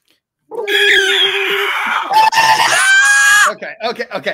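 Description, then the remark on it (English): A loud, raw victory screech from a human voice, shrill and strained, held for about three seconds before breaking into a few choppy, sputtering yelps. “I need some kind of I don't know, sound bite for that. But victory screech.”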